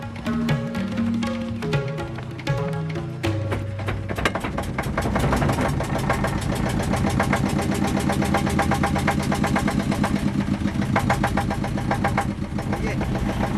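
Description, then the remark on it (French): A small boat's engine sputters at first, then settles into a steady, rapid chugging that runs loud throughout, with faint voices briefly audible early on, as the boat carries a team out on a river to take water samples for quality testing. “Sur un petit bateau.”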